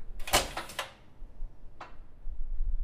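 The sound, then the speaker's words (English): A heavy old door, like a storm door, swings shut with a loud, rattling kerchunk of several quick clunks, followed a second later by a single softer latch click, against a low rumble. “Back then, not just with Kresge being old, but all doors were a lot heavier. And they're like storm doors. And so they would just kerchunk a lot more.”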